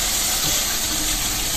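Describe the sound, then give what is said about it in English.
Hot water runs steadily from a tap as someone washes cooking oil off their hands with soap, in a continuous, even hiss of rushing water, fairly loud with no pauses and no voices. “Hot water and some soap.”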